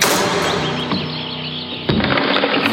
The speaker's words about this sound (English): Rabbi Yisroel Kosik stood outside the officer's house. The chief warden enters his house and slams the door.